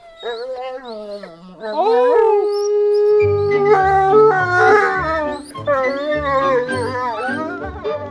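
A wolf howls in long, sliding tones, rising into a sustained note before several more wavering howls overlap. The howls are loud, with a low rumbling backdrop in the later part.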